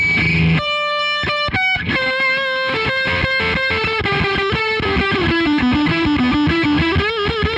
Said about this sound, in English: That's the fuzz. And so I'm guessing just based on that setting that you have dialed up, you kind of like a glitchy, almost like zipper fuzz where it's almost like dying out. Yeah, yeah. Just like sounds like the speaker's breaking.